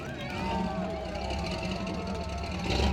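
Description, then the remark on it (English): Steady rumble of vintage car engines rolling past in a Fourth of July parade through downtown Big Fork, with a busy crowd of voices chattering over it throughout, the engine noise swelling slightly near the end. “People, floats, and vintage cars wound through downtown and crossed over the Swan River.”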